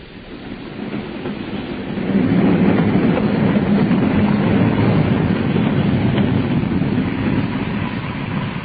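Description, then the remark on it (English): A train rolls steadily along the rails, its broad low rumble swelling after a couple of seconds and holding loud with a faint rhythmic clatter of wheels, no voices. “We're stopping. Signals, I suppose. This will make us later than ever.”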